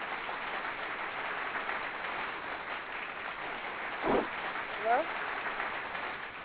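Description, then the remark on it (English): A round of applause from everybody in the station welcoming a guest to the show, a dense, steady wash of clapping that holds at an even level throughout, with a couple of brief vocal sounds rising over it near the end. “Let me give you a round of applause.”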